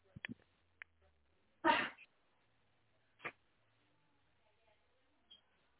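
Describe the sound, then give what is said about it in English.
A single loud sneeze bursts out of near silence, followed a second later by a shorter, sharper burst and a few faint clicks. “Just bear with me a second. I'm going to sneeze.”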